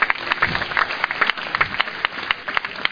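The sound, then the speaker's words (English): A church audience claps together in steady applause during a sermon, a dense crackle of many hands with no one speaking over it, giving a clap offering for the apostle Paul. “Give Paul a clap offering, somebody.”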